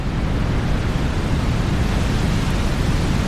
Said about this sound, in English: I think that's kind of nice, Nadine. That's a very rough sea. I could see how you would think it was waves, but, well, according to Nadine, it's just steady white noise.